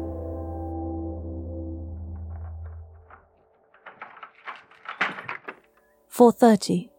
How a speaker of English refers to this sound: The door clicked open.